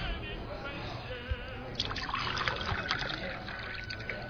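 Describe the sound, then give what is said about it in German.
Still water trickles steadily into a glass, a moderately loud pour with a gurgling texture that fills out after a brief pause, set against a murmur of voices. “Ihr stilles Wasser.”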